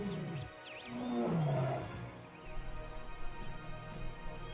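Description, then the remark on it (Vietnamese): Tigers and leopards kept in a cave roar in a few deep, drawn-out bursts, loud, with the strongest roar in the middle before fading into a low, rumbling growl. No one speaks. “Trở về, ông cho quân sĩ biến hang động này thành nơi nuôi nhốt hổ báo.”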